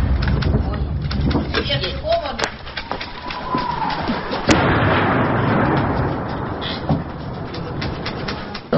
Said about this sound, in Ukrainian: Это что, осколки летят. Даже в убежище слышно.